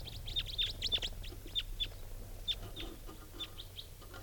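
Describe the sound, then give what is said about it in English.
Calls of a type 4 bird and a type 2 bird, together at the top of a large tree, ring out in a quick, irregular series of short, high-pitched chirps, several in a row and then sparser, over a low steady background rumble with no talking. “And the type 4 bird joined it.”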